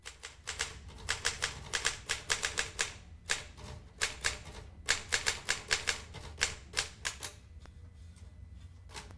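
typewriter typing

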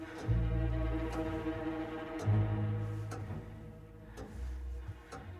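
grandfather clock ticking

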